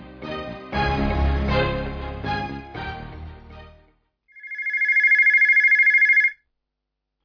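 An office telephone on the manager's line rings in one rapid, trilling burst lasting about two seconds, loud, following a few seconds of music that fades out. No one speaks.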